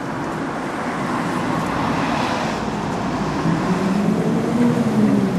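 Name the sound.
bus driving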